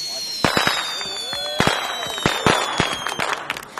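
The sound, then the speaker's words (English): Sharp fireworks bangs and crackles go off loudly in rapid, irregular succession, with rising whistles streaking through between the bursts, at a village fireworks display on Jubilee Field at night. “We were supposed to have silent fireworks, but they weren't.”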